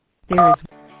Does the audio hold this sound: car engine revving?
no